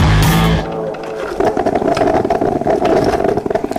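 An espresso machine gurgles and bubbles with a steady buzzing hum and rapid, rattling pulses, following a brief loud burst of other sound at the start.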